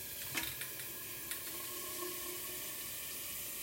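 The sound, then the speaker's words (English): A steady stream of water pours into a large water bottle with an attached handle, a continuous rushing splash with a few brief clinks near the start, fairly quiet, with no talking. “Let me load this up with some water.”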